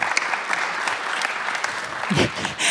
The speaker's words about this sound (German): Ein ehemaliger Hauskreisteilnehmer klatscht sehr laut. Sehr gut.